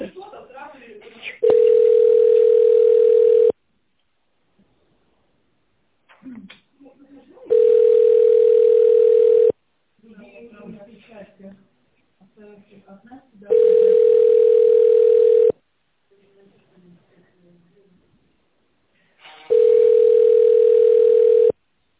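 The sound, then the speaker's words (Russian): A telephone ringback tone sounds four times, each a steady two-second hum with long pauses between, on a call to a company while waiting for a secretary to answer. Quiet voices are heard in the gaps. “Пожалуйста, переведите ваш телефон в тональный режим и наберите внутренний номер сотрудника или дождитесь ответа секретаря.”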